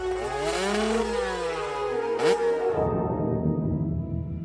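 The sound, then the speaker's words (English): A motorcycle engine roars loudly, its pitch climbing and falling as it revs, then settling into a rough, rumbling idle for the last couple of seconds. No one speaks. “But the roar of the engine?”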